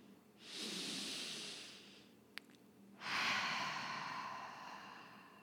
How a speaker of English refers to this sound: So with that said, I'm just going to pause for a second to take one big mindful breath, and you're welcome to join me.